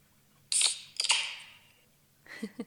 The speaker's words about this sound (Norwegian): Det lyden av en brus, eller egentlig øl da, som åpnes.